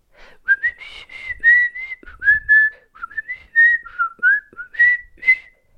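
A person whistles a melodic song tune with sustained, gliding pitched notes in a steady, song-like phrase, clear with no talking.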